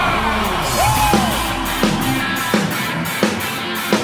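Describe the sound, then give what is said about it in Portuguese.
A large crowd at a DJ party in Florianópolis, Brazil, yells and cheers in a dense, continuous roar, with one voice whooping above it and heavy thumps landing at a steady beat underneath. “Levanta a mão e dá um grito, Floripa!”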